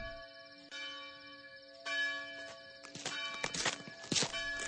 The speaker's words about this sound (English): The Windsor bell hath struck 12. The minute draws on.